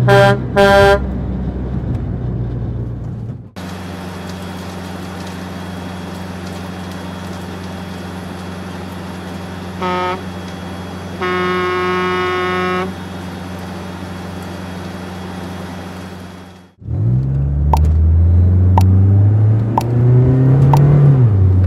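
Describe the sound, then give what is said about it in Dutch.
A concrete mixer truck idles with a steady, low rumbling drone for several seconds, broken by a short horn toot and then a longer honk, before the engine noise abruptly cuts off. “Where is the concrete mixer truck? Concrete mixer truck.”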